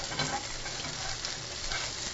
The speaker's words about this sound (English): And now I think my crab cakes are ready to flip. You can hear them sizzling away. Ah, there we go.